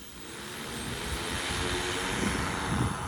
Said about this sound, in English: The drone takes off and it goes somewhere and it lowers the package on a winch and drops it on your lawn.